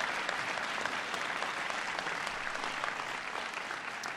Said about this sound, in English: Senator Bernie Sanders, Senators Richard Burr, Representative Mike Michaud, Representative Jeff Miller, give them a big round of applause. Thank you.